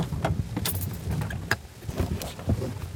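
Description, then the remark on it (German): Clicks, rustling and a jingle of keys over a low rumble as a person gets out of a car amid floodwater inside a supercell storm, with a sharp thunk midway and a few scattered knocks after. “Doch dazu muss ich mein Auto verlassen.”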